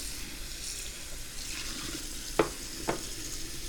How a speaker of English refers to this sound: And now we gotta rinse some of these things out. Because now they're all soapy.